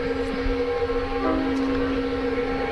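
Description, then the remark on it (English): A train horn blows at a crossing in one long, steady, sustained note over a low rumble of background noise, carrying through the whole stretch without a break. “Now you hear the train blowing at the crossing.”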